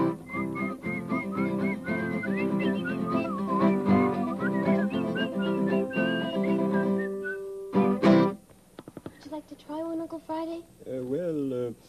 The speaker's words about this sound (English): I've never whistled to an egg before.